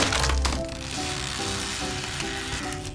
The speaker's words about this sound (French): « Vite, papa. Il nous faut davantage de bois, » dit Pinocchio en cassant une chaise.